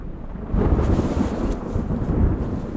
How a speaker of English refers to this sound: Wow, the rain's really picking up.